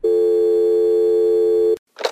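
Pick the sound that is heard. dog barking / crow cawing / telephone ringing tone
telephone ringing tone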